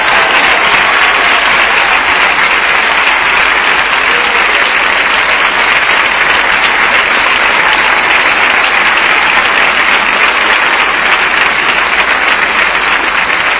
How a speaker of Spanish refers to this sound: ¿Cuánto le dan un fuerte aplauso al Señor?